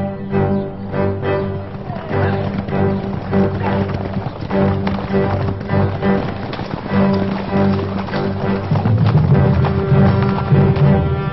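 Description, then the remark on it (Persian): The galloping hooves of the ruler's soldiers' horses pound in a fast, steady rhythm for the whole stretch, loud, with a sustained tonal drone running underneath. “من صدای پای اسب سربازان را خوب می شناسم.”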